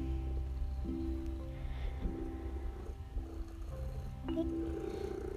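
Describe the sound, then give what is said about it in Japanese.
A domestic cat purrs steadily on a bed, a low rumbling drone with rising and falling tonal waves in a regular breathing rhythm, alone without any talking. “そんな猫が今私の横たわるベッドにやってきました。”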